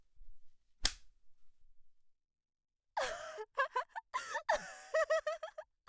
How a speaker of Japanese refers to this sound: やっぱこれだわ。自分で握って振るう鞭の感覚、ゾクゾクしちゃう。